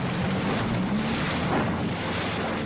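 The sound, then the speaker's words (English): A research boat's motor drones steadily on Little Rock Lake, its low hum mixed with rushing water and wind buffeting the microphone, loud and continuous throughout with no voices. “To simulate the acid rain that fell over parts of the U.S., research boats like this one sprayed acid into one of the basins.”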